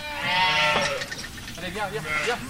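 A flock of about 80 black-faced Suffolk sheep bleating loudly at feeding time on a farm, several wavering, overlapping calls running together over a couple of seconds with no pause between them.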